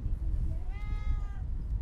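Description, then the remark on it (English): A single drawn-out cat meow rises and falls in pitch over a steady low rumble of background noise, not loud. “Hello, pussycat.”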